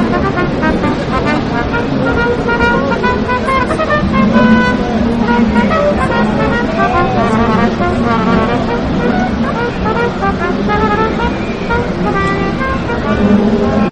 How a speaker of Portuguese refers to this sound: Um cara tocando corneta aqui, velho. Vamos filmar. Deixa eu ver se dá pra ouvir.